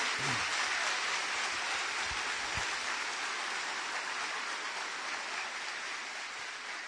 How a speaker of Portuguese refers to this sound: Então aplauda o Senhor.